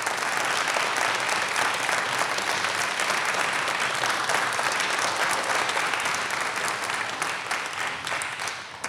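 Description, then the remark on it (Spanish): Sustained applause from an audience, a dense, steady wash of many hands clapping at an even loudness for the whole stretch, with no voices over it, for a trumpeter and a pianist taking their instruments at a recital in the Radio Nacional auditorium. “Sí, por supuesto, los acompañamos con un aplauso.”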